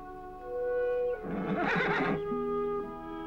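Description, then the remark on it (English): A horse tethered to a tree gives a single short, shuddering neigh, rising out of a steady held tonal background that continues before and after it. “A horse is tethered to a tree nearby.”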